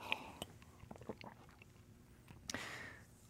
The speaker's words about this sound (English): Okay, I'm going to take a sip of water here.